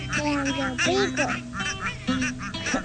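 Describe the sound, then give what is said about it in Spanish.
A voice imitates duck quacking with a quick run of nasal, harmonic 'quack' sounds, fairly loud, in a sing-song rhythm over faint background noise. “Y la patita, pues, ¿qué va a hacer? Cuando le pidan, contestará: coman mosquitos, cuara, cua, cua.”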